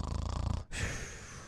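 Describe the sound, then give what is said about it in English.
A person imitates the snore of someone whose weak tongue falls back in the mouth: a rough, rattling inhale that cuts off abruptly, followed by a breathy, hissing exhale. “Okay, third, you have the people who snore because their tongue is weak and is falling back in their mouth.”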